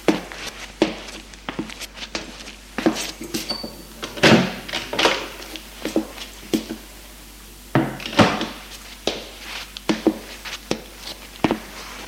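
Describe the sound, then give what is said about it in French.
A door is eased open while trying to make as little noise as possible, with soft creaks, clicks and light knocks of the handle and frame, a series of brief, quiet sounds spread over several seconds with faint rustling between them. “Prends-en faire par la main pour aller ouvrir la porte en faisant le moins de bruit possible.”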